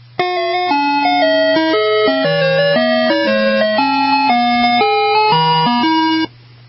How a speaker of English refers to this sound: let's move on to number four on the Ice Cream Truck Top 10 Songs, Sailing, Sailing